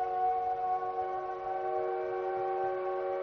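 A factory whistle blows in one long, steady, loud hoot, its harmonic tone holding unbroken for the whole stretch with no voices present.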